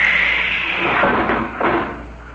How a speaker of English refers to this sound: I'm going to pump out the lock. All set. Open the outer door,